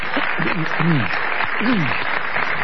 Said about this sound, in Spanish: aprovechando los ecos de nuestra última ovación.